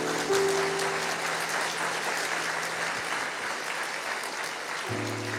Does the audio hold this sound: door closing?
no